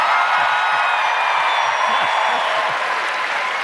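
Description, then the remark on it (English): A crowd in Richmond in 2019 lets out a loud, sustained rebel yell, a dense wall of high whoops and hollering that holds steady for nearly four seconds with some clapping mixed in. “That, I presume, was the rebel yell I've heard so much about.”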